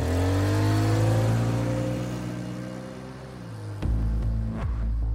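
A car engine revs steadily with a rising and falling hum, then shifts gear with a brief clunk and keeps accelerating away, loud with no voices.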